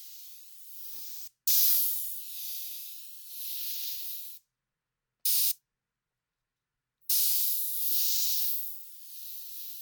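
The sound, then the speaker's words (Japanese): Steady hissing bursts of a fine carbonated mist sprayed onto facial skin along the lymph lines, from chin to ear, beside the mouth to ear and beside the nose to ear: several sprays of a few seconds each separated by short silences, with no talking. “だから、こうやってリンパに沿って浴びるのは大事。”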